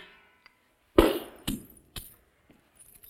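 A sharp crash of breaking glass, followed by two more smashing impacts and a few faint tinkling fragments settling afterward. Fairly loud, with no voices.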